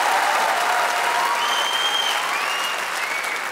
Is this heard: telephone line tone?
no